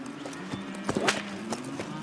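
Horse hooves clip-clop in a steady, even rhythm at a walking pace, moderately loud, over a low continuous background hum.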